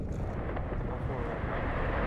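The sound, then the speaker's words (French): Massive ice cracking from an iceberg about 50 metres from a boat, as tens of tonnes of ice fall into the water: a loud, deep, continuous rumbling roar that holds steady for about two seconds, heavy in the low end with a rough, crackling texture. “Le fracas du craquement de la glace et le son de dizaines de tonnes de glace qui tombent dans l'eau.”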